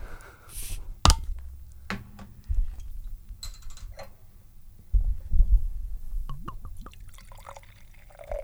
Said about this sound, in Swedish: Ska vi se till att få ett riktigt gott ölljud? Ja, men ska vi inte kunna hälla upp den här, det tror jag. Detta är ju en lättöl, så det här är ju helt okej.